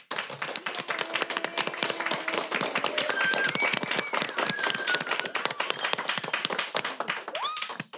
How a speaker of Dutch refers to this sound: En voordat we gaan beginnen de experts de hem van het lijf te vragen, zou ik je willen vragen, 1 applaus voor jullie medeleerlingen van vandaag, de leerlingen van de zomerschool.